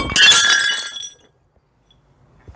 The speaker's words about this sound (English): Oh dear. Just as I thought. All that crockery, very old by the way, has been smashed and left on the floor. Listen to it. Disaster.